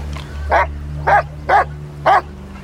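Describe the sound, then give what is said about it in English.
A dog barks four times in a steady rhythm, each bark short and fairly loud, over a low constant hum in the background. “Is the dog bothering you?”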